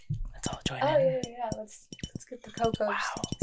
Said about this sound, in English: Hang on, let me, I have a glass, and I'm just going to like tap on it with my fingernails.